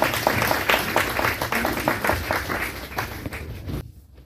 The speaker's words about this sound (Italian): Allora, il film spero vi sia piaciuto, ma credo di sì, ho sentito un applauso, quindi è tutto meritato